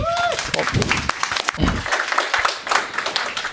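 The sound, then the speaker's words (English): An audience at a talk on real-time communications in Matrix (Matrix RTC) applauds, a dense, steady patter of clapping that fills the whole moment, with a brief rising tone at the start and a few low voices murmuring underneath. “Big round of applause.”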